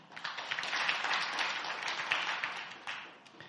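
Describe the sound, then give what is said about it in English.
Steady applause from a church audience for the worship team at Last Adam Tabernacle, many hands clapping at once in a dense, crackling wash that holds at a fairly even level for a few seconds, with no voices over it. “Let's give the worship team a big hand clap.”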